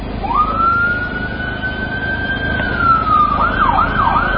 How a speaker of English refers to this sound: Ambulances transporting the first rescued boys from the Thailand cave to a hospital.